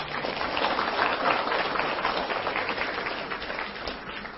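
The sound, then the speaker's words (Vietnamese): A crowd applauds steadily to welcome a Buddhist dharma assembly, many hands clapping in a dense, continuous patter that holds an even level throughout, sounding like a sizable audience. “Xin đề nghị tất cả đón mừng pháp hội bằng một tràng pháo tay.”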